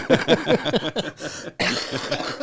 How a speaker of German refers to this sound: Da ist er, der Husten. Ja, da ist er, der Husten.